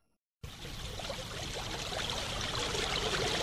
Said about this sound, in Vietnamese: Đầu tiên có một dòng sông đang đổ xuống sườn đồi, chảy về phía trước sủi bọt trắng xóa, đang chơi trò ú tim giữa các dạng đá. Bất thình lình xuất hiện ồn ào như một đứa trẻ, để rồi tự ẩn mình trong những ao hồ sâu thẳm và tĩnh lặng.